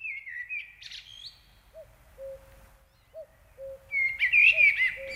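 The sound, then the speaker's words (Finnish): A common cuckoo repeats its soft two-note call three times at a steady pace, while other birds chirp and trill more brightly. “No se on kyllä aika jännä asia, että toi käki, joka on tuota siis tosi hamppari ja käyttää häikäilemättä hyväkseen muita ja siis ihan sikamainen.”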